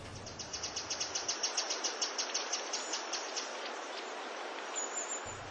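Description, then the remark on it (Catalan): Birds chirp in a quick, steady run of high, bright notes over a constant hissing wash of background noise, with a brief low rumble at the very start. “I no sents els ocells? I tant que els sento.”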